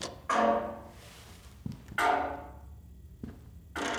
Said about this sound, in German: Klopf mal ab, ob du Hohlräume findest.